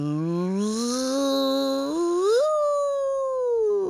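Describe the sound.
A voice imitates a long, mournful howl, a single sustained wail that climbs steadily in pitch, peaks, then slowly sags downward, fairly loud with nothing else around it.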